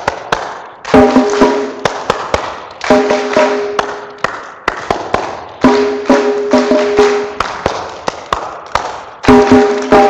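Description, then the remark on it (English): Sharp, crisp hand claps ring out in short rhythmic patterns as a storyteller claps and listeners copy each one, each group followed by another round of clapping that echoes it, with brief pauses between phrases and no talking. “Well, just to make sure you're wide awake and listening, I'll clap my hands, you copy with a clap.”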